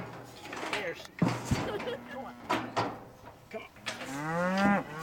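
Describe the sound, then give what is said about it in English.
Several cows moo loudly as students restrain them for branding on a farm in a valley by Mesa Verde National Park. Their low, drawn-out calls overlap with clattering and a few knocks, while people's voices mix into the commotion. “but it was the students who took turns in restraining the cows.”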